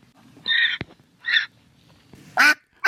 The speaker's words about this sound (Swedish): Vi lyssnar igen. Först hananka.